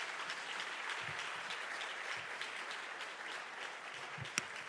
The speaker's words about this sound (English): Give them another round of applause, please.